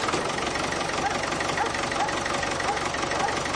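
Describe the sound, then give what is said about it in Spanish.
A 550-horsepower Ferrari sports car engine idles with a steady, dense roar, a continuous rumble carrying a rough, buzzing edge that holds at an even loudness throughout. “Bueno, este es claramente el coche que tuve el año pasado, Ferrari.”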